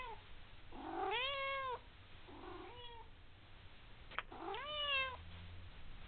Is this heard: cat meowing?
yes